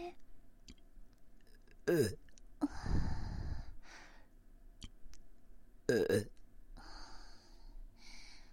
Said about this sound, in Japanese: 早速ちょっとね、耳元でゲップしちゃいますか？聞こえましたか？